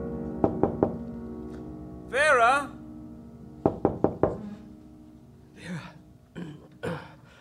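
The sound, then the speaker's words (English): Two sets of three sharp knocks on a door, clear, separated by a brief murmuring voice, followed by faint low vocal sounds afterward. “Vera, I think Henry's at the door.”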